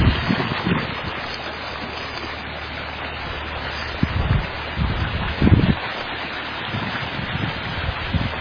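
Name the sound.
creek water flowing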